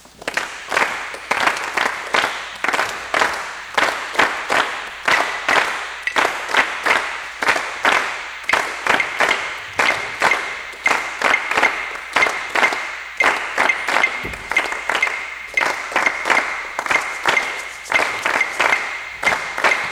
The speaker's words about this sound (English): So let's clap out at 2-3.